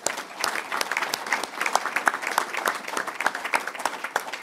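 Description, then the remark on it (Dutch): Sustained applause from an audience honouring a commission member who is receiving a royal decoration, many hands clapping in a dense, steady patter that holds at an even, moderate loudness throughout with no voices over it. “Een applaus voor”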